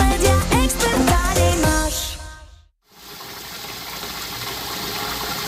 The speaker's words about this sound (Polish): Tak z kranu w Twoim nowym mieszkaniu brzmi płynąca woda, z której jeszcze nikt nie korzystał.